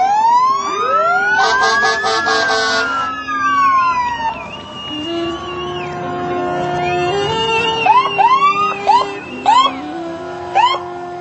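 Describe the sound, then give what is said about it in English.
A Cal Fire Station 15 fire engine siren (South Bay area, serving Los Osos; California Department of Forestry) wails up and down, then switches to rapid yelps and short whooping blasts, loud, with engine rumble underneath and no talking. “It serves the community of Los Osos for all the risk emergencies, including medical aids, fires, traffic collisions, and non-emergencies. They're letting us know that they're here.”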